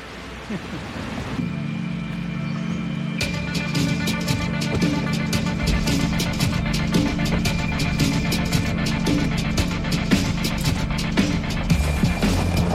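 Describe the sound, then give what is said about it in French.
A car engine drones steadily from inside the vehicle as it climbs to the hamlet of Bionnay near Saint-Gervais, a low sustained hum under road noise, with rapid clicks and rattles running through most of the drive. “Nous montons maintenant au hameau de Bionnay, le premier touché lors de la catastrophe de 1892, en voiture avec le maire de Saint-Gervais, Jean-Marc Pélex.”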